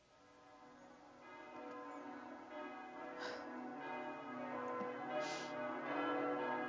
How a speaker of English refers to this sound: I hate to hear the ringing of the bells. Bells sounded different when I knew the deceased was someone I loved.